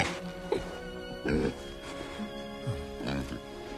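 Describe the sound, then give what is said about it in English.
A pig oinks several times in short, irregular grunts, fairly soft, over a steady low background hum, as a farmer lying in bed scratches the pig's chin. “He turns and scratches the pig's chin.”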